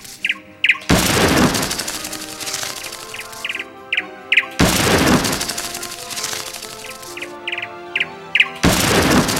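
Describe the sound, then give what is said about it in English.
Three loud blank gunshots, fired in a strawberry field to scare birds away from the crop, boom at steady intervals, each with a long echoing decay, while small birds chirp and tweet in the quieter gaps between blasts. “Wait until the birds are in the center of your speakers and press the space key to fire a blank.”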